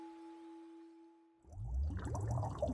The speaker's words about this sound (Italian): Hai mai pensato, ad esempio, di addormentarti cullato dal suono dell'acqua?